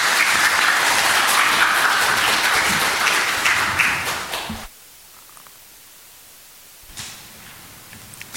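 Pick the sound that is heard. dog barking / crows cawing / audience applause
audience applause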